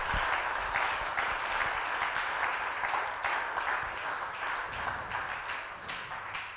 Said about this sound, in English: If you have received that prophecy, clap your hands unto the Lord.